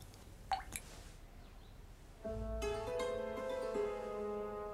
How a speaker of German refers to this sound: Denn in dem Fläschchen ist Gift. Schon 2 Tropfen des Elixiers sind tödlich. Walpurga träufelt sie mit einem teuflischen Lächeln in ein Weinglas.